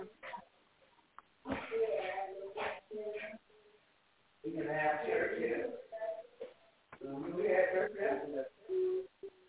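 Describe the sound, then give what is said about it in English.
Tinny, band-limited phone-line noise from someone's unmuted phone on a call, carrying muffled, garbled voice-like bursts, arriving in three uneven stretches separated by brief near-silent gaps, moderately loud throughout. “All right, we're picking up some noise in the background from someone's phone.”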